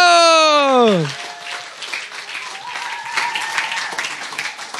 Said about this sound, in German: Deswegen einen ganz großen Applaus